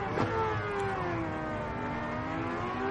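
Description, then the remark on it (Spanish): Many racing car engines in a racing video game drone and rev together in a loud, continuous roar, their layered whining tones shifting slightly in pitch over a few seconds, with no talking. “Son muchos coches, no pasa nada.”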